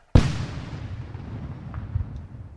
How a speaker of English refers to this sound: So you're going to try and blow it up in a controlled explosion? Yep, that's right. They're issuing a general warning first that if anyone's in the area foraging or trying to plant, they should get out of the way before the explosion. 5, 4, 3, 2, 1.